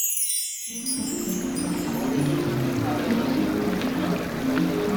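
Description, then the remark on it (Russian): Steady splashing and churning water as people take turns dipping into a river while two priests read prayers and baptize them, with faint murmuring voices underneath the constant wash. “Все по очереди в реку окунаются.”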